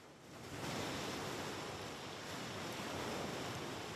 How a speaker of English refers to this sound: On the beach, he walks down the pebbles and stands in front of the crashing waves.